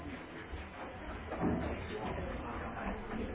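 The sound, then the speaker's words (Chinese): Chairs and tables being moved around a room by several men after a Buddhist chanting gathering: scraping and a dull knock around the middle, with steady clatter and indistinct voices murmuring in the background throughout. “那我们也请问几位男士帮我把椅子和桌子抬一下，好，谢谢。”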